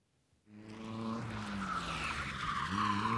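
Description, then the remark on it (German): A race car crashes, skidding with loud, sustained squealing tires, the shrill screech rising over a roaring engine and building steadily after a brief quiet start. “Rennauto, Ferrari oder so.”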